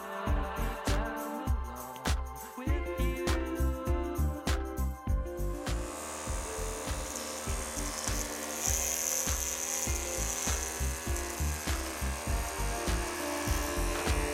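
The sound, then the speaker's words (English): Electric hair clippers buzz steadily during a haircut, their motor hum pulsing in a quick, uneven rhythm as they work through hair, continuous and fairly loud with no voices. “It's like a lawnmower getting through this.”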